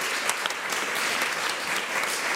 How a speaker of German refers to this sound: Dankeschön, dein Applaus.